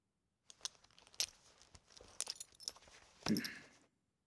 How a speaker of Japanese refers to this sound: いいよ。ベルトを外せる？